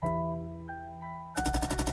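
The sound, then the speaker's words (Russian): A sustained, steady keyboard chord holds, then a loud burst of automatic rifle fire, a sound effect added to a music track being made, cuts in, about eight rapid, evenly spaced shots rattling over the music at the end. “А давай здесь сделаем звук автомата.”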